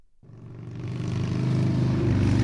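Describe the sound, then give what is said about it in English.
Brightly colored Japanese street racing motorcycles roar around a makeshift course of orange traffic cones on a Marine Corps base flight tarmac at a track day, at speeds up to 90 miles per hour: a dense, buzzing drone with a low throbbing rumble that swells steadily louder. No one speaks. “Groups of brightly colored Japanese street racing bikes maneuver the course at speeds of up to 90 miles per hour.”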